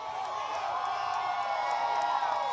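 A large crowd cheers and shouts steadily, many voices blending into a loud, continuous roar with scattered whoops rising above it, sustained without a break.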